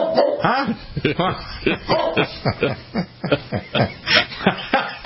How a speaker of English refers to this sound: Charlotte, what's going on? Who are you boofing at? Whoa. Kill, Charlotte, kill. I know it is a vicious bark. What are you barking at?